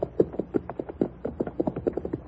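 animal, horse hooves clip-clopping

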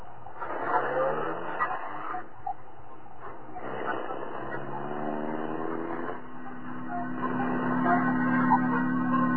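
vehicle, car driving off

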